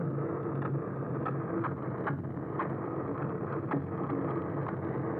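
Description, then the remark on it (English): A steady, muffled engine drone from a passing boat recorded underwater in the ocean, a continuous low rumble with faint periodic clicks and thumps, no voices. “So like boats, which is actually the most pervasive sound in the ocean.”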